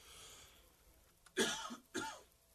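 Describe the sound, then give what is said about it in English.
Two harsh coughs in quick succession, a burst around the middle followed by a second one about half a second later, with faint room noise before them and no talking. “Sorry, I'm coughing here.”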